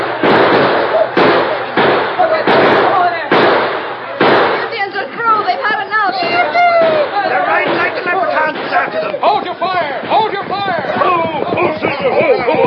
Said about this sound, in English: They're shooting at those redskins. Come on, man. Shoot for all you're worth.